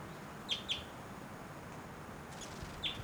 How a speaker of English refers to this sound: Wild bird, that might be the male in the back, but those flight calls were the female.